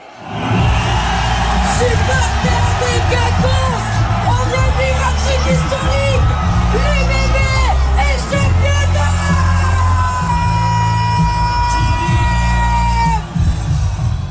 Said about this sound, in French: Bel avant-goût hier soir quand tout Bordeaux a chaviré. Écoutez, la Libération au coup de sifflet final, c'était au Quinconce justement, transformé en fan zone géante.